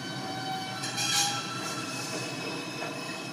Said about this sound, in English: a little interval from the song Somewhere, West Side Story love song, could be heard when some subway cars were starting up